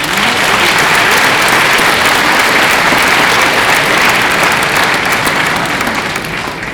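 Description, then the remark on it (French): A crowd applauds musicians who have just played, many hands clapping in a dense, sustained roar that stays loud throughout and eases slightly at the very end. No one speaks over it. “Alors je vous prie de les applaudir.”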